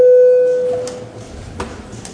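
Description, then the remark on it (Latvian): A parliamentary voting bell sounds once, called before a vote on amendments to the notariate law in its third reading: a single steady, mid-pitched electronic tone that starts loud and fades within a second, leaving quiet background noise with a few soft clicks. “Paldies, lūdzu zvanu.”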